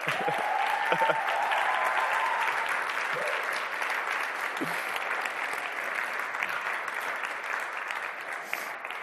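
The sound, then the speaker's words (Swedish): A crowd applauds steadily for a newlywed couple asked to stand up, dense clapping sustained for the full nine seconds at an even volume, with a few brief voices briefly audible near the start. “Stig upp så får jag ge er en stor applåd.”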